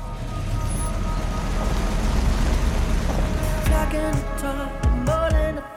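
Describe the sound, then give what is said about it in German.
A thief's car engine rumbles steadily after being started, then revs up in a few rising surges as the car drives off, with a low, loud drone throughout and no voices. “Der Große startet den Wagen und wirft das Tuch aus dem Fenster.”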